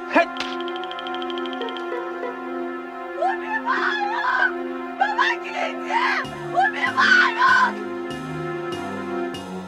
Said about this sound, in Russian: Бросив клюшку, Джек ринулся на крик, раздавшийся где-то рядом.